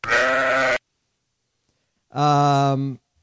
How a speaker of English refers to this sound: Is that a sheep or is that a goat? It says sheep. Oh, okay. But I don't speak either.